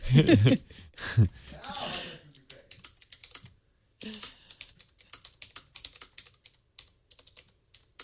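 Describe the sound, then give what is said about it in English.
Typing on a clicky, typewriter-style keyboard for an iPad: quick, irregular key clacks that run steadily for several seconds, following a few loud breathy vocal noises at the start. “And even because it's the app, it's a keyboard, it even has autocorrect and all that.”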